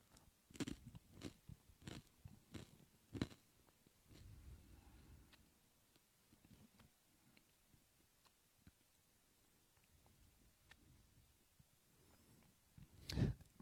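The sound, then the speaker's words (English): Crunchy gluten-free communion wafers being chewed by a gathered audience during communion: sharp, irregular crunches, several loud ones early, then fainter scattered bites, ending with one loud crunch. “I just heard someone whisper, it's so crunchy.”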